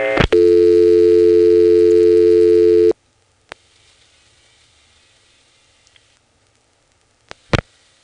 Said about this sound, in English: But anyway, intra-office calls from a rotary dial phone are more interesting than this, because, well, let me just show you. I'm going to pick up the phone and dial 49.